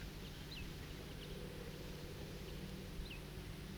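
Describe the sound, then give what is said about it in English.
A few short, sharp bird alarm calls ring out at irregular intervals, thin, over a constant low rumble of rushing water. “That bird is giving alarm calls.”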